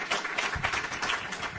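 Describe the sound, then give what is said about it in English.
An audience claps together in a steady, dense burst of applause, a crowd-wide patter at moderate volume with no one talking over it, welcoming visiting attendees from New York. “Please give them a clap of welcome.”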